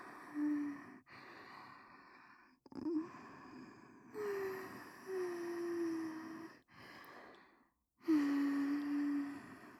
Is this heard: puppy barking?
no